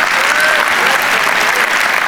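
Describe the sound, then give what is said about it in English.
Steady, dense applause from an audience at the Rock Church and World Outreach Center, giving a hand to the Lord at the close of a message, a continuous loud wash of many hands clapping with no pauses and no voices standing out. “Give a hand to the Lord who spoke to you tonight.”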